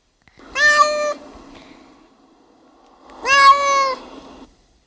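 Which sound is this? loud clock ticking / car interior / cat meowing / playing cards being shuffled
cat meowing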